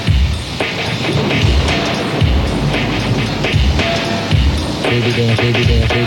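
A thunderstorm roars steadily and close, with dense rushing rain and deep rumbling throughout, while faint musical tones surface briefly toward the end.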